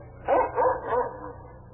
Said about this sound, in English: What dog is that? He came with the master.